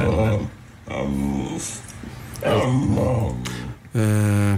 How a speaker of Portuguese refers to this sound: Mas isto, pergunto, supostamente é um cão que fala? Mama. Sim. Não é claríssimo que é um cão a chamar a mãe?